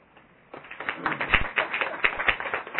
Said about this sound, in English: Can I have a round of applause to yourself?